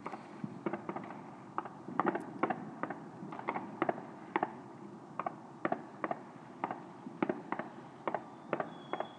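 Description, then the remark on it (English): Fireworks going off above a house pop and crackle outdoors in an irregular string of sharp bangs, about twenty over several seconds, over a steady background rumble. No one speaks. “Oh, there's one, just going above the house. Must be in the garden of the houses opposite our back garden.”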